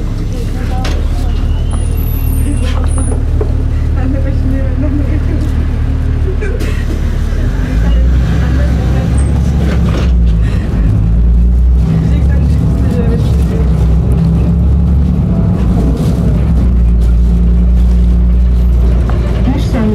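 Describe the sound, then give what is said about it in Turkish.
Light traffic on a coastal road in Istanbul on a rainy morning: a steady, loud low rumble of engines and passing vehicles runs throughout, with some talking mixed in beneath the road noise. “Bu yol aşırı bir trafik olabilen bir yol, sahil yolu.”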